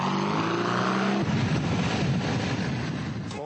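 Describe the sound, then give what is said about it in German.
Motorcycles ridden by leather-clad riders on a weekend outing roar past, a droning engine whine giving way to a loud, rumbling rush of engines that stays strong throughout, with no voices. “Sie nutzen das Wochenende zur Ausfahrt ihrer Maschinen.”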